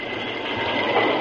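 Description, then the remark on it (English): A train braking on the tracks to stop before logs piled across the line: a steady, dense rumbling roar with a hissing, grinding edge that swells slightly toward the end. No one speaks. “I reckon I'll have to stop. Put on the brakes.”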